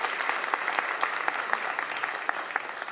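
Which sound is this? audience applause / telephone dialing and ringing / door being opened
audience applause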